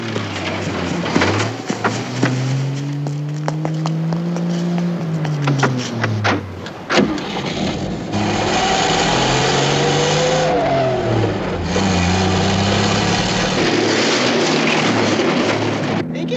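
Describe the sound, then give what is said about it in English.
A stolen car's engine revs loudly, its pitch climbing and falling through gear changes as the thieves accelerate away, with a steady roar continuing throughout. “Those punks stealing a man's car.”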